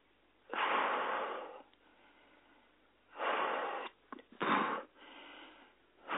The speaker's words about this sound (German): Ja, atmen hilft, da hat eure Botschafterin recht. Atme einfach kräftig ein und aus, aber konfrontiere dich.